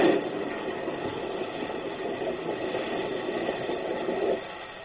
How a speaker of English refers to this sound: Now to stop the train.